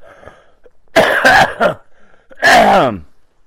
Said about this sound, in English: Yes. And I'm coughing.